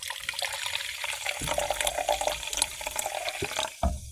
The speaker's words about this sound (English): So Amazing. Here's some ASMR for you. And I'm going to pour it into a wine glass.